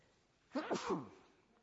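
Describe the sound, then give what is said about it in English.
A single sneeze bursts out abruptly, loud and breathy with a brief voiced tail, then fades into quiet room tone. “Excuse me, I'm just about to sneeze.”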